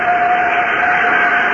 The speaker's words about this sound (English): Clear? Clear. Starting starboard jet. Starting port jet.